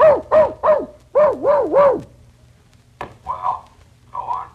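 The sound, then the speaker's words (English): A person imitates a dog barking into a microphone: six loud, howling woof sounds in two quick groups of three, followed by a few softer, muffled yelps. “I specialize in dog barks.”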